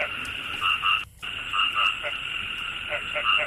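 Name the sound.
frogs croaking at night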